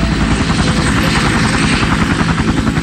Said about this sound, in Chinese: 坐上直升机，系好安全带，接过机长递来的通讯设备，这时候螺旋桨开始旋转，发出震耳欲聋的声响，回荡在峡谷中。